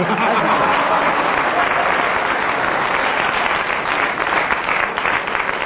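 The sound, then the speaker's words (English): A studio audience of a radio programme breaks into a full round of applause for the way a panellist acted up the part, dense and steady clapping that stays loud and sustained for several seconds without any voices over it. “I must explain to our listeners that the round of applause was not so much for what Kenneth said, but the way he acted up the part.”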